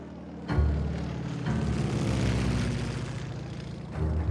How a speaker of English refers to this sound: In mid-July of 1943, legend has it that a lone American fighter plane dipped low over Villalba, Sicily. A golden banner bearing a large capital L fluttered behind its tail.